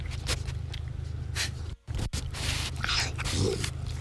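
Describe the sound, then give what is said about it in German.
A raccoon eats, chewing and smacking in short, irregular wet clicks and crunches over a steady low hum, with a couple of brief silent gaps partway through. “Oh, das ist ein Waschbär, der was frisst.”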